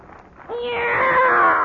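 A single long, drawn-out cat meow rises in sharply after a moment of quiet and holds loud, wavering slightly until it cuts off.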